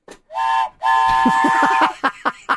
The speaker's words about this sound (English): All aboard. Where'd you get that? North Conway, a place called Zeb's. What it's is like that? It's an old-timey store. It's a train whistle. Is that an actual train whistle? That's so cool. Oh, I like it. It's a piece of wood.